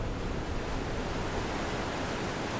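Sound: rushing river water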